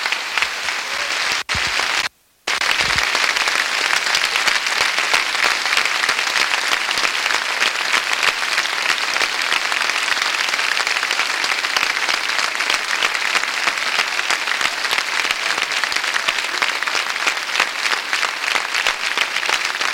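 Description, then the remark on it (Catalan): A large crowd applauds loudly and steadily for the 761 injured, a dense wash of clapping that holds for the whole stretch, broken only by a brief cut near the start. “Un aplaudiment pels 761 ferits.”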